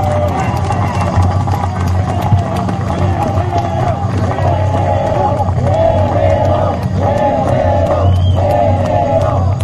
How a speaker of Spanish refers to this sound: Y también están los compañeros, viene un grupo de compañeros de Guerrero, un aplauso fuerte para ellos.